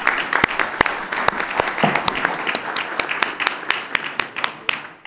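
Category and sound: crowd, audience applause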